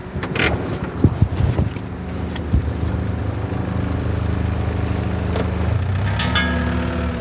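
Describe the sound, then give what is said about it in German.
A loader's engine drones steadily as it is driven quickly over to a dead deer, a low, even rumble with a few sharp metallic clanks and knocks near the start, later rising slightly in pitch. No one speaks. “Xaver fährt schnell mit dem Lader zum toten Hirsch hin, hängt ihn an den Hinterbeinen auf, stellt eine Wanne unter seinen Kopf und macht den Kehlenschnitt.”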